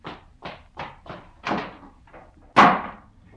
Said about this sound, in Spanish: Y el tío Juan salió dando un portazo.